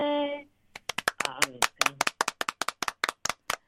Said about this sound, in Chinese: 哇，我都舍不得停下我的掌声呢。